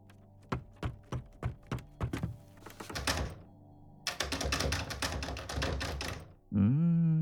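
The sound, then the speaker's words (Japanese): Someone tries a locked door leading outside: a quick series of sharp knocks and thunks, then a loud sustained rattling of the handle that doesn't give, ending with a short creak. “残念、外への扉は開かないんだよな。”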